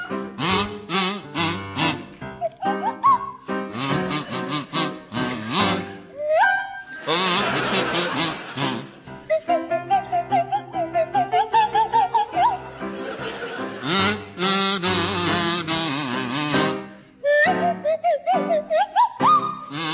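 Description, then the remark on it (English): Tony Hawks on a buzzy kazoo and Tim Brooke-Taylor on a sliding swanee whistle play a wobbly melody together, loud, with pitch swoops throughout and an audience laughing underneath. “meld the ethereal lilt of the Swanee whistle with the chirpy croak of the kazoo”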